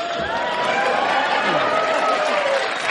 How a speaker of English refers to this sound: The crowd goes crazy.